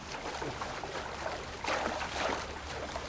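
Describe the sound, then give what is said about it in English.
Water sloshes and swishes in a steady churn as paddles dip and pull toward a floating coffin, with a few stronger splashing surges partway through and no voices. “Everett paddles towards it.”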